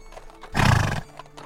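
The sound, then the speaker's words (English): A single loud horse whinny bursts out for about half a second, with faint scattered knocks like hooves before and after it; no one speaks. “Say the day was sunny, the ground lightly covered in snow when he hitched the horses.”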